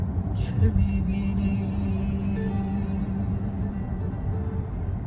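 Steady low engine rumble and road noise from inside a moving car, a continuous drone with a faint hum holding throughout and a brief swell near the start.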